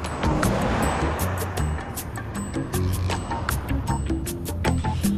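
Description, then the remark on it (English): A steady, continuous rumble of a car driving along, with low engine and road noise and occasional faint clicks and ticks throughout, no voices. “Percy and Simon travel along in Percy's car in stiff silence.”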